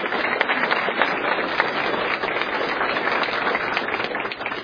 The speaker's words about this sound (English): Round of applause.